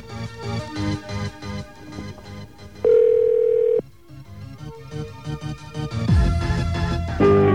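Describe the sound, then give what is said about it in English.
A loud, steady telephone dial tone hums for about a second, surrounded by busy clattering and electronic tones before and after it, obtained to use a TDK Talk 5 calling card. “I don't know where these things come from, but let's get ourselves a dial tone here.”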